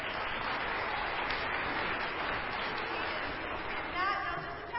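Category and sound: crowd, audience clapping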